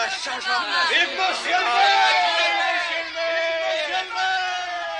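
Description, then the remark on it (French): A crowd shouts and cheers together in admiration of Monsieur Madeleine after he rescues Father Fauchelevent, many overlapping voices rising in excited, admiring cries, loud and sustained for several seconds with swelling and dipping intensity. “Mais tandis que la foule criait son admiration à Monsieur Madeleine,”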